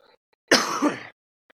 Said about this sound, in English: Cough.